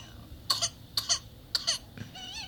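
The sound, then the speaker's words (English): A baby's high-pitched whooping cough: three sharp coughing fits, each a quick double burst, spaced about half a second apart, then a strained, wavering rasp as the infant gasps and struggles for breath, fairly quiet. “Aw, baby struggling to breathe.”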